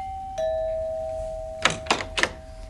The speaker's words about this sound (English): The following February, our doorbell rang.